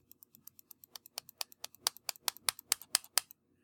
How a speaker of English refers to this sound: Anyway, you just right-click on that. Can you hear me right-clicking?